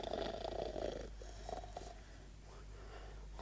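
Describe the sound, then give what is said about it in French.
Low, rumbling snores in an alcove come in slow breaths, a long raspy pull at the start and a shorter one midway, with a soft steady drone underneath and no talking. “On l'a ronflé dans mon alcôve?”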